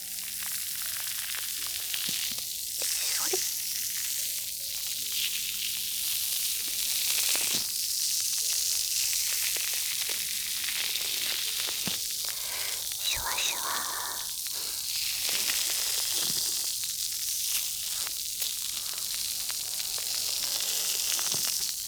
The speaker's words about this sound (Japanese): 最初はそうですね、こちらの左のお耳からシュワシュワしていきましょう。ちょっとシュワシュワが強くてびっくりしちゃうかもしれないですが、ごめんなさいね。いきますよ。